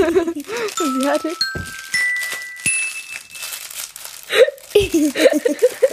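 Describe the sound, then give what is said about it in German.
Crackly rustling as a thin, transparent plastic fortune cookie wrapper is torn open and crinkled in short bursts, with people talking before and after. “Sie hatte eine Tüte aufgemacht. Ist komisch, ne? Das sind so durchsichtige Tüten.”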